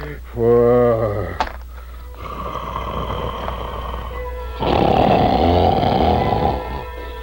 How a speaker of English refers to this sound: Soon the wicked giant was fast asleep, and the castle trembled with his snores.